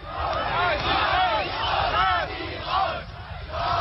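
A crowd of several thousand people chants the slogan "Neues Forum" (New Forum, the name of a new opposition group) in unison, the massed voices rising and falling in a steady repeated rhythm, loud and continuous with a rough outdoor quality.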